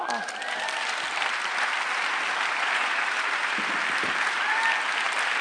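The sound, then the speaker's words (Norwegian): Steady audience applause fills the whole stretch, a dense wash of many hands clapping at an even, fairly loud level, with a few faint voices or cheers mixed in. “Ja, det var applaus!”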